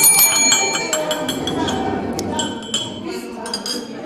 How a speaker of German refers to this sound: Wo ist deine Glocke? Hallo, meine Glocke hier.